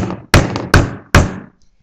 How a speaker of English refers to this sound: The man really needed his friend's help, so he knocked again. And again.